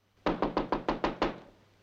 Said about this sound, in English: There's a knock on Maria's door.